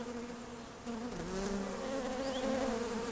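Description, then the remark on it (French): Thousands of honeybees buzz around a person's face, which is coated in honey water during bee yoga, one foraging at the corner of the eye; a steady droning hum with wavering pitch as wings beat near the ear, loud and continuous with no voices. “Il y en a une qui est en train de me butiner exactement au coin de l'œil. Je vois les ailes des abeilles grand format, l'abdomen qui vibre.”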